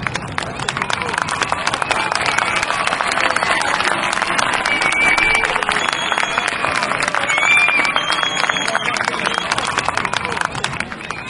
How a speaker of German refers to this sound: Und deshalb hier an der Stelle nochmal Applaus für alle drei Gruppen.